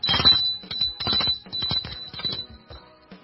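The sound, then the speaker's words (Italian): A doorbell rings with a shrill, buzzing electric tone, sounding in a series of quick rattling bursts over a steady high whine before fading out. “Suona il campanello.”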